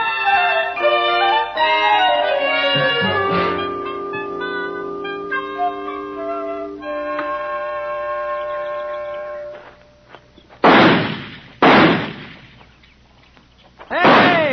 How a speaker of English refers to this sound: All six shots in the tree and two of them on the target yet.